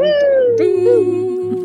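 A single long, drawn-out, loud meow, its pitch sliding slowly downward, with a steady low hum underneath and no talking.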